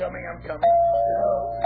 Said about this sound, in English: Honestly, I've been ringing the doorbell and knocking for 10 minutes.